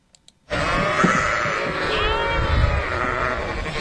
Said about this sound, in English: Yes, that is a flock of sheep. They're grazing on fields of grass.